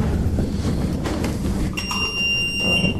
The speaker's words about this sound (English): Oh, there's one buzzer broken on this side.